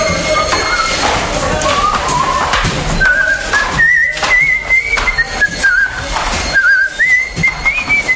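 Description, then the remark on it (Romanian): Someone whistles a wandering tune, the notes sliding up and down clearly in the foreground over a busy, noisy background with occasional thumps. “cât ai să fluieri așa, toată viața?”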